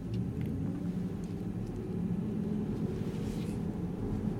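A steady, low road rumble from the wheels of a CLA electric car with an 85 kWh battery and slightly wider rear tires than front, heard from inside the quiet cabin. The hum stays even and continuous throughout, with no voices.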